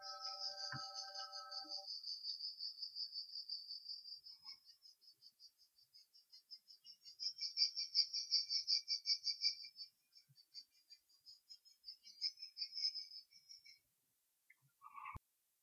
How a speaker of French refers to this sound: Quand on prend cette route en été, on se laisse bercer par le chant des cigales.